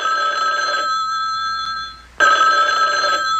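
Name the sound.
telephone ringing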